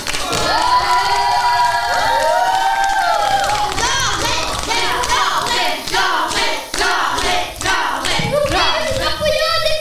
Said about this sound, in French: Je suis avec vous et le public vous applaudit pour vous encourager un peu. N'est-ce pas, mesdames et messieurs?